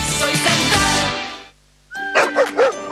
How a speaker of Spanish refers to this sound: Esos ladridos son los perritos de la Corporación Mirada Animal Chile, que están felices por el nuevo Centro de Control y Recuperación Canina.